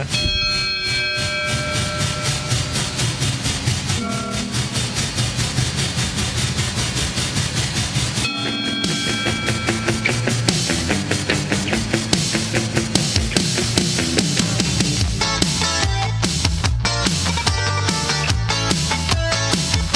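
An Israeli rock song plays loud and full, with a steady driving beat, sustained chords and layered instruments. The arrangement shifts and builds partway through.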